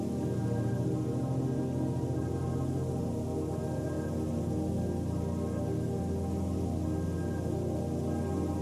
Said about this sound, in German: Ganz weit oben rauscht der Wind durch die Sequoias. Und für einen Moment klingt es wirklich so, als würden sie miteinander sprechen.